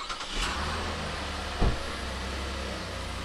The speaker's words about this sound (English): After backing the car out of the garage,